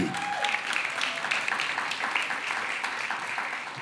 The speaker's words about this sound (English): Thank you so much. Please give him a proper clap.